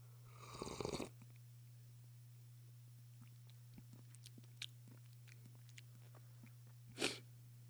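Quiet mouth noises and sniffs from a person smelling and sipping a drink to taste it: a breathy sniff at the start, scattered soft wet clicks and smacks, then another sharp sniff near the end, over a steady low hum with no talking.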